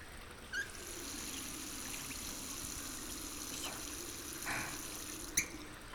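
Carbonated spring water, welling up from a carbonated spring and used for kneading, trickles in a steady, soft fizzing hiss, broken by a few brief splashy pops near the start and end. Quiet, with no voices.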